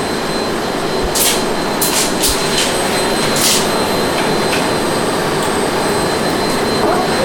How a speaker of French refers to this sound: Donc, ils vont enregistrer le bruit d'aspirateur, quand même. Vous pouvez laisser allumer. Ah, oui. Oui, on est intéressé au bruit.